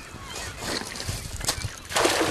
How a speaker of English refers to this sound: The net splashes into the water and he starts reeling it in. He dumps a net full of little silver wiggling fish into his bucket, and he can't stop laughing.